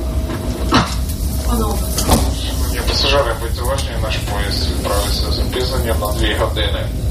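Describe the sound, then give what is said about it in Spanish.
A public address announcement plays over a train's loudspeaker, a steady amplified voice above a constant low rumble, with a couple of sharp clunks near the start, heard aboard the train while it waits at the platform before departure. “Un silencio que se interrumpe con la megafonía.”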